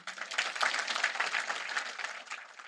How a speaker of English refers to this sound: Now, and that was one of her biggest applause lines.